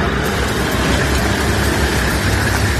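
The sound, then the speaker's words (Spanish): A steady, loud rumble of heavy truck engines rolling past, a dense continuous roar of a convoy of 200 humanitarian aid trucks moving slowly as they arrive in the north of the Gaza Strip carrying water, food, medicine and shelter equipment during a truce. “El de 200 camiones de ayuda humanitaria llegando al norte de la franja con agua, comida, medicinas y equipo para refugios.”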